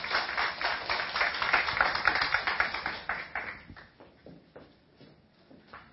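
An audience claps together in welcome, a dense burst of sharp, bright claps that holds strong for a few seconds and then thins out and fades away. No one speaks.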